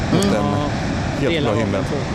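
A steady, loud rushing roar of water from the upper Handelsforsen falls, where water plunges down a height, heard from a lookout above the rapids, fills the background without pause while a person talks over it throughout.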